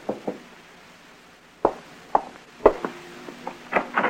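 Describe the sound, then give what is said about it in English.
Sharp wooden knocks on a door: a quick double rap, a pause, then a string of irregularly spaced raps, fairly loud, with no voices. “You're glancing at your watch when there's a knock on the door.”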